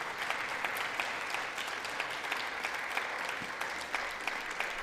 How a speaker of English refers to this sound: Listen to them clap. That's Democrats clapping.